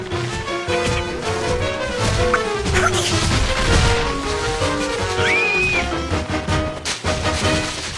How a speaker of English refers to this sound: George jumps onto another one and another as they topple over. Oh, no! George is back on the ground as the trees fall in a chain reaction like dominoes.